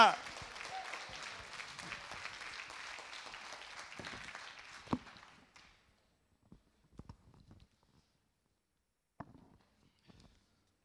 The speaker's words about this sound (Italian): Possiamo fare un applauso al Signore che ha fatto tutta questa opera? Un applauso forte al Signore che ha fatto tutto questo.